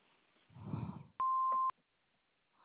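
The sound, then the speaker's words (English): A single loud answering machine beep, a steady electronic tone lasting about half a second, follows a brief low rumbling noise and then gives way to near silence. “Please leave your name and number after the beep, and we'll get back with you.”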